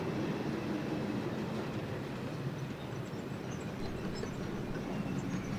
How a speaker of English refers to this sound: Oh, this could be the freight train I was waiting for. Hold on. Yeah, that looks like a freight train. There we go. Look at that. That's a thing of beauty.